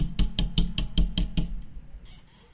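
A quick run of about seven sharp, evenly spaced knocks as a pair of scissors is banged against something as a hammer, followed by a short quieter tail with no talking.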